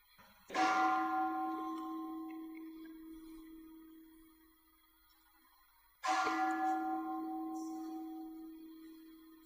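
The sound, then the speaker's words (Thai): Two deep temple bell strikes during a meditation talk, each ringing out with a long shimmering hum that slowly fades before the next, clear with no talking. “เสียงระฆังนะเกิดแล้วก็ดับเสียงกระทบหูใจก็สะเทือนใครรู้สึกไหมเสียงกระทบหูมันสั่นริ้วๆๆขึ้นมามันสะเทือนขึ้นมากระทบแล้วก็กระเทือน”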